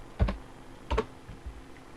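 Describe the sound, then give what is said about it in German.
Keyboard typing as a username and password are entered to log a user back in: a few sharp key clicks in an uneven rhythm, two stronger taps followed by softer ones, with no voices. “Ich gebe meinen Benutzernamen ein. Okay. Das Passwort.”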